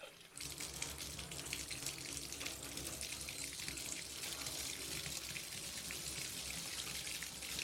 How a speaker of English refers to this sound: I didn't like taking baths. Sometimes I would run a bath, then swish the water back and forth with my hand, pretending to get into it.